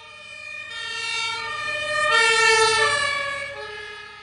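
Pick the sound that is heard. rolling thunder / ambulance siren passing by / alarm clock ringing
ambulance siren passing by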